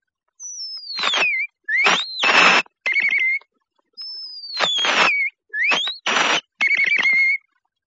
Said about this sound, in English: The wild mockingbird.